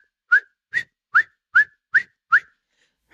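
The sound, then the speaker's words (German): A whistled imitation of a marmot's alarm call: six short, sharp, high whistles in a quick, evenly spaced series, with a seventh just starting at the end. Clear, with no talking. “Und dann habe ich auf einmal das Pfeifen gehört vor dem Murmeltier.”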